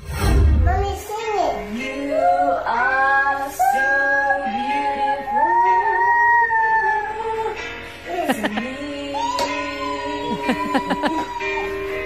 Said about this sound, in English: together they are doing a song off together, her and her toddler.